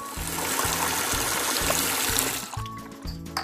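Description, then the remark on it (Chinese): Water runs in a steady, hissing trickle from a bathroom tap left not tightly shut after tooth-brushing, continuous, then fades away near the end over soft background music. “忘了关灯，水龙头也没有关紧。”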